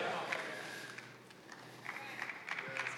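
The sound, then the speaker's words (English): Scattered, hesitant clapping from an audience, a few uneven claps at a time rather than full applause, soft against a low murmur. “You're like clapping nervously.”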